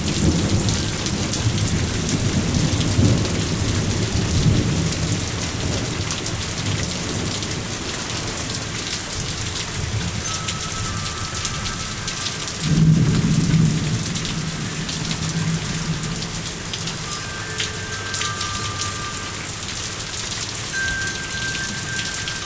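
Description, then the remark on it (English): Steady, dense rain patters on a hard surface at a back door, while low thunder rumbles roll in twice, the first to the left and the second louder and overhead around the middle. No one speaks. “Thunder's to the left of us, and that one is kind of overhead.”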